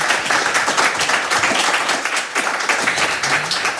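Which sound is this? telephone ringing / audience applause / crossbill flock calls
audience applause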